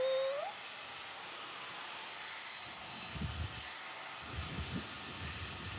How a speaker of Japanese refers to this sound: ごめんごめん、ドライヤーね、ドライヤー。あったあった。ほいじゃ、ドライヤーかけますよ。ブイーン。